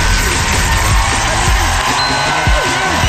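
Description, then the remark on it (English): A dense wash of many hands clapping together, loud and continuous, with whoops and cheering voices rising through it for the whole stretch, as Gordon Ramsay claps on his live Friday-night cook-along show. “Here's Gordon Ramsay clapping a lot on the cook-along.”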